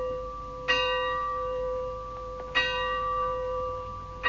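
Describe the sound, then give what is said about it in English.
A church bell tolls slowly in a dramatized scene from Shakespeare's Macbeth, each strike ringing out with a long, humming decay; about three strokes spaced roughly two seconds apart, clear with no voices. “The bell invites me. Hear it not, Duncan, for it is a knell that summons thee to heaven or to hell.”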